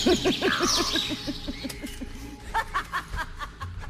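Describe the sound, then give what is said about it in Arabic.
A quick run of harsh, cackling crow calls fills the first half, loud, followed by a few scattered sharper chirps and squawks fading out toward the end. “يو بيشربون فجأة ظهر عداله غربان وظهرت عدالهم عيوز.”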